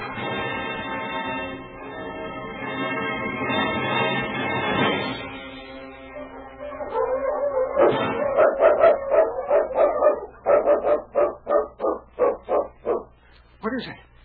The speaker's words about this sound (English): Oh, I don't like the sound of those wolves.